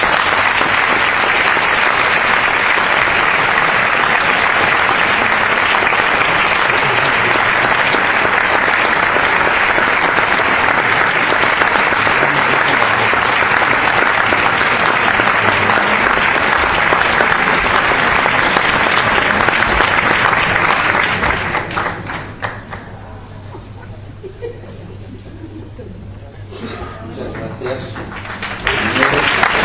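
Sustained audience applause at the presentation of a medal for literary and journalistic work, dense and loud for about twenty seconds, then dying down into quieter scattered clapping and room murmur before picking up briefly at the end.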